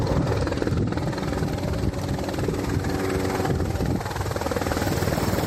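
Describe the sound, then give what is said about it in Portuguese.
A firefighting helicopter working a forest fire in Barreiros, Lugo, passes overhead, its rotor and engine a loud, continuous roar with a dense rumbling texture that holds steady throughout, with no voices. “Hai moitos medios traballando no punto, 32 brigadas e preto de 30 motobombas, tamén avións e helicópteros, acaban de escoitalo, estiveron en alerta durante toda a noite.”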